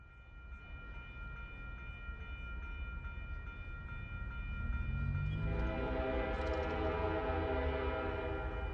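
train passing with horn

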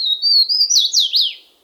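swainson's warbler song

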